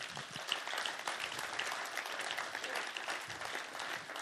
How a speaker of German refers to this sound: Oder jetzt wäre ein guter Zeitpunkt, dass wir Gott einfach mal Danke sagen dafür, dass er gut ist und dass er mit uns ist. Können wir Gott mal einen Applaus geben?